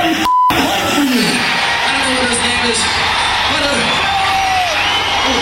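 A death metal song blasts loudly and continuously, dense distorted guitars filling the sound while deep growled vocals roar over it, with a brief electronic beep near the start.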